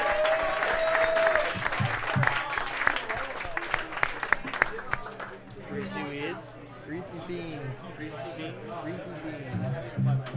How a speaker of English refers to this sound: Hey, one more round of applause for …. Can we get a round of applause for those boys from North Carolina and …?